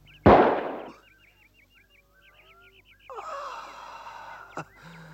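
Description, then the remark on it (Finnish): A single loud gunshot, fired at Morrison in a drama, cracks out near the start and rings off, followed by quieter shuffling and then excited voices with a brief sharp knock near the end. “Tai saat lisää lyijyä nahkaasi!”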